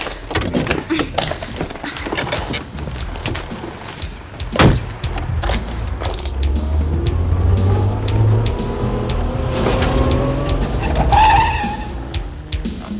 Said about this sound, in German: Sofort beschleunigte Guy den Wagen und fuhr hinter Mr. Van Dyke her, genau darauf achtend, ihm nicht zu nahe zu kommen.